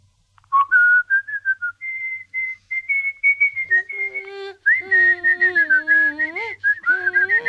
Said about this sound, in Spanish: La voy a silbar para no decirles las letras.